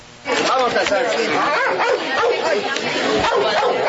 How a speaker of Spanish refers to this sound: A la entrada del colegio Delia Zapata Olivella ladraban estos dos perros callejeros. Uno de ellos, rucio y de pelo corto, gruñía mientras esperaba que le abrieran la puerta.